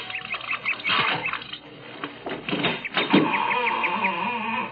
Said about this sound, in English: A creaking door, just the right Victorian touch.